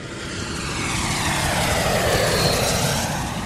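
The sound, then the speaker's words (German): A steady, loud airplane engine drones throughout, a broad roaring hum that swells slightly and then eases, with no voices present. “Im Frühjahr 2022 steigt in Amsterdam ein junger Mann aus einem Flugzeug.”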